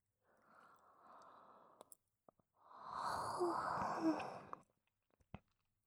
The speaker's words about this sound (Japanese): ああ、同時にあくびした。